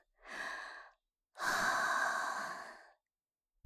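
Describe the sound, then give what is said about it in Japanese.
Two slow, airy exhales of breath, a shorter one followed by a longer, fuller one, each a soft breathy hiss with no talking. “ほら、私の吐息が当たってるでしょ。”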